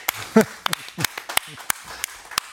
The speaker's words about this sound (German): Aber zuallererst freue ich mich über mein Publikum, was hier so zahlreich erschienen ist. Applaus für euch, schön, dass ihr da seid.